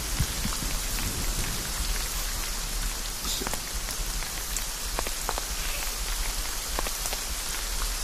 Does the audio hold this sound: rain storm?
yes